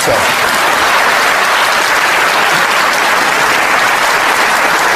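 The BBC Question Time audience applauds loudly and steadily for a speaker on the podium, a dense wash of many hands clapping that holds at full strength for the whole stretch with no voices breaking through.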